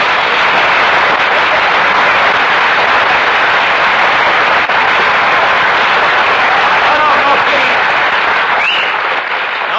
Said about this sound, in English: No applause, no applause. The listeners will think we have a studio audience.